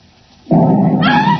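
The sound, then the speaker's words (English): A sudden loud blast bursts out of near-silence and rolls on as a heavy, sustained roaring rumble, with a harsh ringing tone rising over it toward the end: an explosion in an upstairs room of a house that blows in the side of the house. “Great heavens, that was an explosion.”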